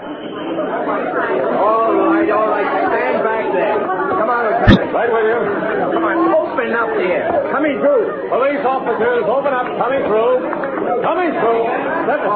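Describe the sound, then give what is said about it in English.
A large crowd gathered at a scene chatters continuously, many overlapping voices forming a dense, steady babble with no single speaker standing out; a brief sharp click cuts through midway. “By the time Lieutenant Frank O'Rourke, head of the squad of detectives assigned to investigate the rumored hijackings, arrived on the scene, a large crowd had gathered.”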